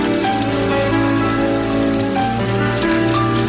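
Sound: shower water running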